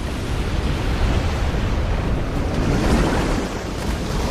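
A powerful, steady rush of surging water roars continuously, with a windy hiss layered over it and no voices: four giant streams of water rising from the water below a bridge and arcing overhead.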